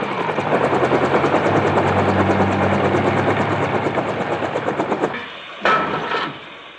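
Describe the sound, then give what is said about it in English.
A helicopter's rotor chops loudly in a fast, steady rhythm for about five seconds, a dense engine roar underneath, then cuts off, followed by a brief hiss and a faint bang. “I don't hear anything. Chopper!”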